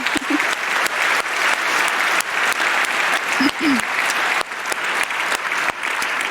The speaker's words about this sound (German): Ansonsten muss man sagen, dass POC hat ordentlich abgeliefert in diesem Jahr, wie immer, ja, kann man nicht anders erwarten, 135.000 DECT-Anrufe. Ja, das ist doch ein Applaus wert.